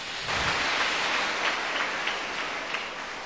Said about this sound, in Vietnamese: Các bạn cho một tràng pháo tay với câu hỏi số 3.